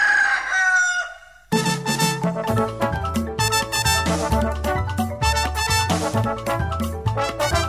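A single loud rooster crow rings out, its drawn-out call falling in pitch, then cheerful instrumental music starts and carries on to the end.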